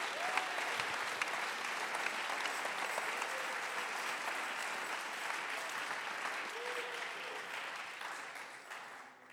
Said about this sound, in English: If you believe that you ought to clap your hands right si now lo crees, debes aplaudir tus manos.